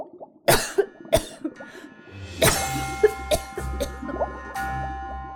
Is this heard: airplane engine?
no